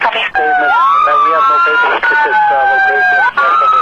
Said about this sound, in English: Copy. Denver TAC 37, I could not hear you over your sirens.